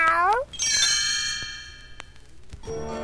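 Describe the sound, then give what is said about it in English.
A short, high kitten meow opens, followed by a bright chiming jingle that rings out and fades, then a second soft meow near the end. “Another was to cuddle Christmas kittens.”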